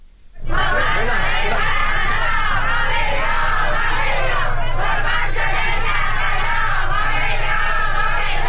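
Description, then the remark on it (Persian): A large crowd of protesters, many of them women, staging a sit-in in Fars province, Iran, against river water transfer and the drying of Lake Bakhtegan, shouts and chants loudly and continuously, many voices merging into a dense, rhythmic roar that starts abruptly and holds steady throughout. “بنابر ویدئوهای منتشر شده در شبکه‌های اجتماعی، این معترضان که تعداد زیادی از آنان زنان بودند، در استان فارس نسبت به نابودی کشاورزی منطقه به دلیل انتقال آب رودخانه و خشک شدن دریاچه بختگان دست به تحصن زدند.”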